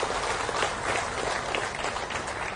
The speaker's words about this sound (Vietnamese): Xin quý vị trên một tràng vỗ tay thật lớn.